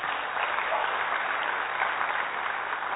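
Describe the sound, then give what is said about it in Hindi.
A crowd of doctors applauds themselves for arriving despite heavy rain, steadily for about three seconds, a dense, continuous wash of many hands clapping at even volume with no talking over it. “तो आप सब जो बहुत कठिनाइयों के बाद पहुंच गए यहाँ पे, तो अपने लिए जोरदार तालियां बजा।”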